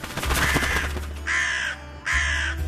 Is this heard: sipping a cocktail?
no